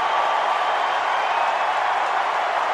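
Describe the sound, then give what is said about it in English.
A baseball stadium crowd cheers and applauds as Clayton Kershaw records his 3,000th strikeout in the sixth inning and takes off his cap to acknowledge them, a steady, dense roar that holds at an even, loud level throughout, with no break or individual voice standing out. “Kershaw takes off his cap to acknowledge the crowd.”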